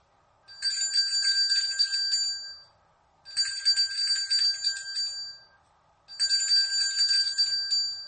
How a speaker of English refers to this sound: and in the other, he held that crazy bell, shaking it wildly.